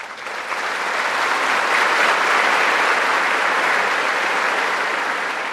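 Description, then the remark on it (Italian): A large crowd gathered in the courtyard and outside the Apostolic Palace of Castel Gandolfo applauds after Pope Benedict XVI's Angelus, a dense, continuous wash of clapping that swells slightly and holds at a loud level throughout, with no voices standing out. “Nel dopo Angelus, tra i festeggiamenti della folla radunata nel cortile e all'esterno del palazzo apostolico di Castel Gandolfo, Benedetto XVI ha rivolto saluti e incoraggiamenti ai pellegrini in 5 lingue.”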